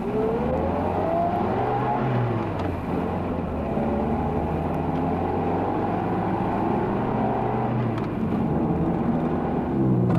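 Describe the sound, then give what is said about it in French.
A car engine hums steadily from inside as a woman drives home at about 2 a.m. from a dance in a neighbouring town, with a rising rev in the first couple of seconds, then a continuous loud drone of driving with no voices. “au bout de 15 jours, sentant l'ennui la gagner, elle prit sa voiture pour se rendre à la ville voisine où il y avait un bal.”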